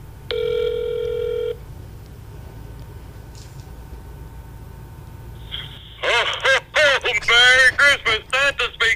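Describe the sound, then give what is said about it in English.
A single ringback tone on an outgoing phone call to a special guest, a steady electronic buzz of about a second, sounds over a quiet line, followed by a pause and then a voice speaking over the phone. “So we're going to call right now.”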